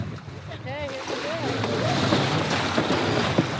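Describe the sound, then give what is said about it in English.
Sails being hoisted on a 42-foot sailboat 3 miles off Costa Rica amid steady wind and water noise, with squeaky, rising-and-falling rope and pulley sounds near the start and faint voices in the background. “We're 3 miles off Costa Rica on a 42-foot boat when it's time to raise the sails.”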